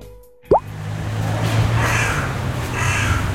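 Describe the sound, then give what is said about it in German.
A hooded crow gives a couple of harsh, drawn-out caws over a steady outdoor background hiss, after a sudden sharp plop near the start. “Eine Nebelkrähe.”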